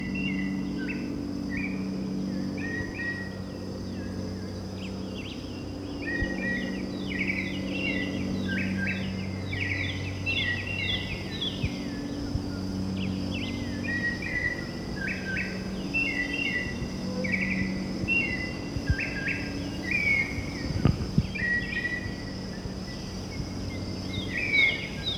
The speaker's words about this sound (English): Okay, confirmed. This is the white chin thrush that's been calling. That's a very mockingbird quality.